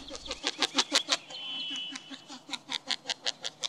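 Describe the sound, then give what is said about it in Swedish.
A male northern lapwing's rhythmic wing sounds during its spring courtship flight: a steady run of soft, muffled, almost barking beats, about four per second, with a brief thin whistle partway through. “Under uppvaktningsflykten på våren låter hanen inte bara med näbben, så där gnälligt och halvgalet som vi tagit upp i fågelsånglektion 43, utan också med vingarna, mycket taktfast och liksom lite dovt skällande nästan.”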